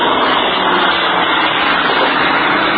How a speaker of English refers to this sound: That's one of the Marine fighter planes just passed overhead. He's on his way back to his base to get a new supply of rockets. I notice he has rocket brackets on, but they are empty.